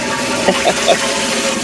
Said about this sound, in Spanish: Está en el baño, lo bajaron dos veces.